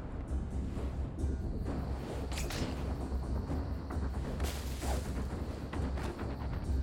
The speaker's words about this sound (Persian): با کی داری میجنگی؟ انفجارای نوری؟